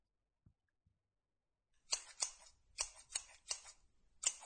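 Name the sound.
scissors being handled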